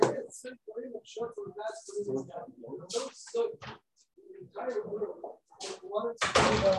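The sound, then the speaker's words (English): Someone tries to open a locked door, a short burst of handle rattling and door knocking near the end, while a person keeps talking throughout. “I'm sorry, someone's looking to come in.”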